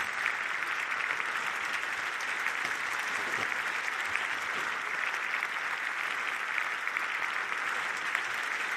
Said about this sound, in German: Er hat im Schloss Bellevue eine ganze Reihe an Jubelpersern antanzen lassen, die in der ersten Reihe fleißig Beifall klatschen, aufstehen, jubeln.